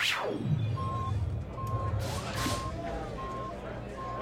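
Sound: beeping alarm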